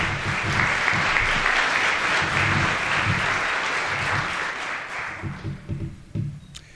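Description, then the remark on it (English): An audience at a Kentucky workforce event claps steadily for several seconds for the Christian County, Todd County and Trigg County public school systems, a dense, loud patter that gradually thins out and fades near the end as a voice begins to speak. “Let's offer them a big round of applause as well.”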